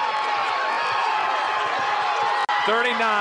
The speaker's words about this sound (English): 39-37, and the Gladbrook Rhinebeck crowd getting into it behind us here.